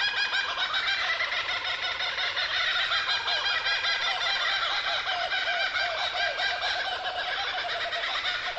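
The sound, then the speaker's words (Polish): A voice imitates the call of a kookaburra, a kingfisher: loud, continuous cackling chatter that rolls and wavers without pause for several seconds, with no words spoken. “Ja nie wiem, czy ja dobrze naśladuję kokabarę.”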